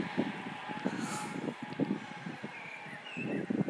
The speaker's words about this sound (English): Oh, here comes a train.